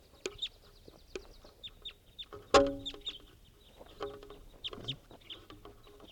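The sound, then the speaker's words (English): The female of a male-female bird pair calls in repeated short, sharp clucking notes with a strong, louder call near the middle, amid other bird sounds and faint background noise. “This is the female.”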